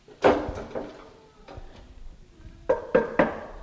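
A homemade trolley for moving chairs being moved, with a series of sharp wooden clunks and rattles: one loud knock, a few softer bumps, then three quick heavy thuds near the end. No one speaks.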